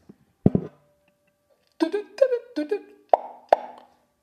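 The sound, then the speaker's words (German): A phone ringtone plays a short electronic melody of bright, plucky tones in a quick, uneven rhythm, opening with a couple of soft thumps and a faint sustained note. No one speaks. “Ja, Klingelton, geiles Ding, oder nicht?”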